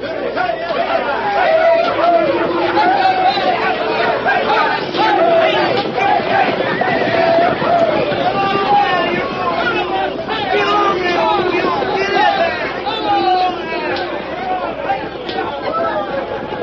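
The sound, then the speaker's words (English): A large, excited crowd of thousands of people, pouring across the Kansas state line into the Cherokee Strip on horseback, on foot and by wagon, buckboard and schooner, yells and shouts all at once, many voices overlapping in a loud, steady roar of chatter and cries that never lets up. “Thousands of frantic, yelling, riding, and wildly excited people poured across the Kansas state line and into the Cherokee Strip.”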